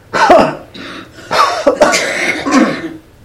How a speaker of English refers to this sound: We all got these allergies. I don't know what it is, but I'm right with you. Yeah. And, you know, hacking, coughing all week long.